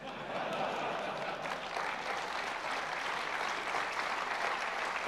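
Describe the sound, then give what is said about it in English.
An audience claps steadily for about five seconds, a dense, even patter of many hands that starts quickly and holds at a fairly constant level throughout. “Now I recognize that you're holding your applause until the very end, and that's fine.”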